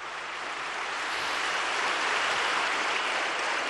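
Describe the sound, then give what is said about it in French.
A crowd applauds a community of nuns who shelter homeless people, a dense wash of many hands clapping that holds at a fairly even level and swells slightly toward the end, with no voices rising above it. “Je vous demande d'applaudir ces religieuses.”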